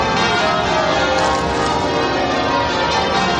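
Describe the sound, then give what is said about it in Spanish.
A dense, continuous wash of ringing church bells of St Paul's Cathedral in London at midday, for a Thanksgiving service during the Platinum Jubilee celebrations, loud and sustained, with overlapping metallic tones blending into a full peal and no voices. “Así sonaban este mediodía las campanas de la Catedral de St. Paul en Londres, donde ha tenido lugar la celebración litúrgica de Acción de Gracias.”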